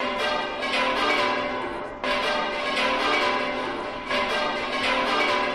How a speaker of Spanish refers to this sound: Así han sonado un año más las campanas del Real Monasterio de las Huelgas, donde el arzobispo ha presidido la Eucaristía y la posterior procesión por el entorno del monasterio.